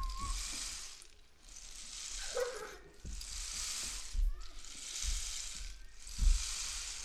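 A steady hiss of rain starting to fall on a sunny day swells and eases in about five waves, with a few dull low thumps and faint brief tones underneath.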